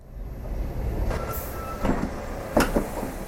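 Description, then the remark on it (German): A train rumbles steadily as it departs from a small railway station in the Zürcher Unterland, Switzerland. There is a low continuous drone and a few sharp metallic clanks and squeaks from the carriages as it moves off. “Doch jetzt fährt der Zug ohne ihn ab.”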